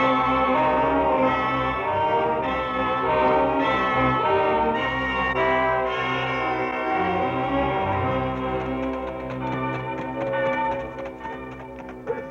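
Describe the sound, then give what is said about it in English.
A prison alarm bell rings loudly and steadily for about twelve seconds, a dense, metallic clamor of overlapping tones that barely lets up, tapering slightly near the end, with no voices. “That's no church. That's the alarm bell at the prison.”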